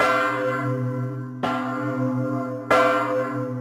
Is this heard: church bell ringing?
yes